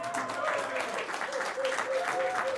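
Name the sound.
applause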